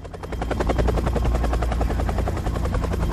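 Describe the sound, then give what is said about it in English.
A helicopter heading for a train yard roars, its rotor blades chopping in a fast, steady rhythm over a heavy low engine drone, loud and continuous throughout with no voices. “Jack and Chappelle head for the train yard in the chopper.”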